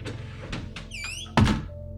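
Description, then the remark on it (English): A closet door in an unused third-floor bedroom closes: a few light knocks and a thin squeaking creak, then a solid, heavy thump as it shuts, with no voices. “I closed the door”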